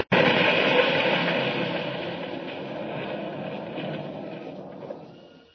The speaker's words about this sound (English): Well, we just got out of that in time. The trolley car's a wreck. Smashed into a million pieces.